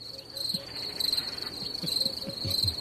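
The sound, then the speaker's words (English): A steady chorus of crickets chirps in a continuous, pulsing high trill, with faint low thumps and rustles underneath and no one speaking. “Well, honestly, I mean, that's funny, the crickets.”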